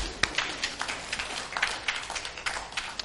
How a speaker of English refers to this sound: Take your right hand, put it high in the air. Now give yourselves a big, good clap.